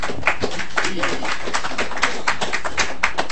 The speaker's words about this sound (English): We usually don't applaud, but that was pretty good testimony.